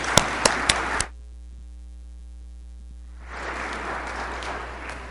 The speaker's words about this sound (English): So welcome. Let's give them a big round of applause for being here.